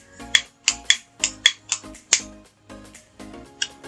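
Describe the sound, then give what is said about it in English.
A new lighter is struck again and again outside in cold weather to light a Churchill cigar, giving about eight sharp, bright clicks in an uneven rhythm, each with a brief metallic ring and no voices. “It is a little cold outside, so forgive my lighter's hesitancy for a moment.”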